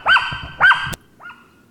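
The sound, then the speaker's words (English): A dog barks twice in quick succession, sharp and fairly loud, followed by a softer third bark a moment later, with no one talking. “That's his dog. That usually means his wife's just come home.”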